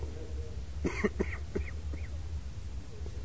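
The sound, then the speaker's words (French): A quick run of four or five raspy coughs in a row, moderately loud, followed by quiet with a steady low hum in the background. “Moi je tousse, mais lui il parle.”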